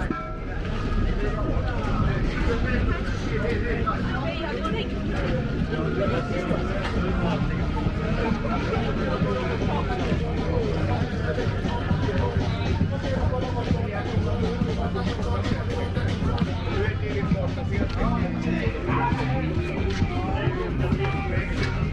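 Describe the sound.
Steady crowd bustle at the food court of the Nós Alive music festival between concerts, with overlapping voices chattering continuously in a dense babble, punctuated by occasional clatters and brief honk-like toots throughout.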